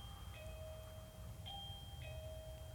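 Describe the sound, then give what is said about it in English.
A bell, the second bell closing a church class for the night, rings with long, sustained tones, struck again about three times in quick succession, each strike renewing a bright ringing pitch over a steady low rumble. No one speaks. “And that's the second bell.”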